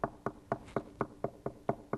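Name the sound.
knocking on a door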